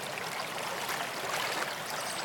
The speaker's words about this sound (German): Gehen Sie nun zu dem Geräusch des Wassers. Bleiben Sie bei dem Geräusch des Wassers und achten Sie auf das Geräusch des Wassers. Lassen Sie alle anderen Gedanken weiterziehen, sondern achten Sie darauf, wie das Wasser klingt. Bleiben Sie beim Wasser.